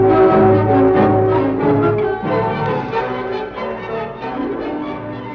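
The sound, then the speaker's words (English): A gong rings out loudly once as someone enters a shop, its rich, shimmering metallic tone hanging in the air and slowly fading over several seconds, with no voices. “Oh, sound gong.”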